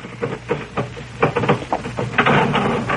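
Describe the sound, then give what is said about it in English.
A sticking elevator door grinds and rattles in several jerky, uneven bursts of scraping metal over a few seconds, with a low steady hum running underneath. “Oh, really, now, I must speak to him again about this elevator door. Sticks something terrible.”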